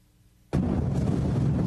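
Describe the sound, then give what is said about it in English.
A thunderstorm-like soundtrack rumble from a video posted on the internet bursts in suddenly after half a second of near silence, then rolls on as a loud, sustained, bass-heavy roar with no voices. “And a soundtrack that sounds like a thunderstorm.”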